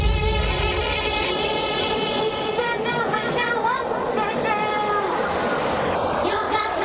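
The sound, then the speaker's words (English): A train rumbles past, loud and steady for several seconds, with a broad roar and high, wavering metallic squeals riding over it. “Hold on, this train going by.”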